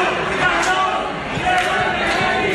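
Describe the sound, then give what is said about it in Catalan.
A full cinema audience at a film festival shouts insults together, a dense, steady roar of many overlapping voices that stays loud throughout, with a few brief sharper bursts rising out of the crowd noise. “Perquè es van sentir aquests crits, per exemple.”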